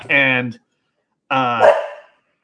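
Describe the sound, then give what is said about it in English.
A male pet dog barks twice, loud, with a short pause between the two deep, drawn-out woofs; the second bark trails off more roughly. “My dog is, whenever he hears about Shazam Fear of the Gods, he just gets upset.”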